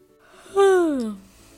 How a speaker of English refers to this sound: Seeing you yawn is making me yawn, even though I did not read the book. Yes, Mama, yawning is actually contagious.